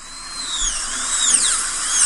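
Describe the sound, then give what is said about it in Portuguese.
A dentist's drill whirs with a piercing high-pitched whine that glides up and down in pitch, steady and fairly loud throughout, with no voices. “É, o pessoal quando ouve esse barulhinho dá gastura.”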